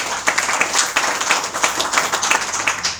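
An audience applauds steadily to welcome a university professor from the Université d'État de Ngaoundéré, who is to give a reading note on the novel Aïcha à la barre; many hands clap in a dense, crackling wash that holds an even loudness from start to finish, with no voices rising above it.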